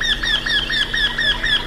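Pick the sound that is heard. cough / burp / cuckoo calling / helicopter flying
cuckoo calling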